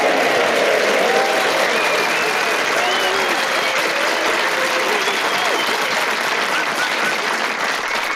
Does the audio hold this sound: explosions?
no